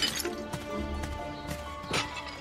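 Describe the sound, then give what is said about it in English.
A man wearing safety goggles in a backyard smashes things with a hammer in a handful of sharp, irregular blows, each bringing a crunchy, shattering crash over a steady tonal background. “Gus, wearing safety goggles, swings a hammer at something out of view.”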